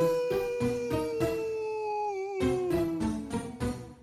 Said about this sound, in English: Before Joe could ask what the problem was, they both heard a chilling but all too familiar howl.